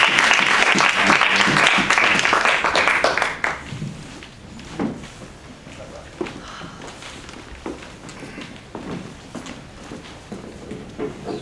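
An audience claps steadily and loudly for a few seconds, then the applause fades out, leaving scattered footsteps and faint shuffling in a reverberant room.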